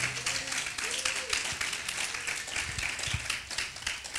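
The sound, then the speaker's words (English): A chapel audience at Criswell College claps steadily for about four seconds to welcome a pastor, a dense, even patter of many hands at moderate volume, with a few voices calling out and cheering underneath. “And come on, if you love Jesus, clap your hands in chapel this morning.”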